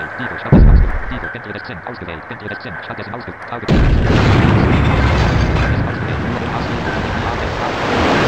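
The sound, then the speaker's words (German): A sharp thud lands early, then a loud depth charge explosion in a video game erupts into a heavy, sustained rumble with a churning, water-like roar that keeps booming until the end. “Gnadenlos, hat mich geortet und, ich weiß nicht, gerammt oder mit einer Wasserbombe beworfen.”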